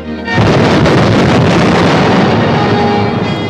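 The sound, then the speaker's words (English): A ship steaming across a calm sea suddenly explodes: a sudden, loud explosive blast bursts in after a brief quiet moment, then settles into a sustained, roaring rumble that stays heavy and broad for several seconds. “Steaming across a calm sea suddenly explodes.”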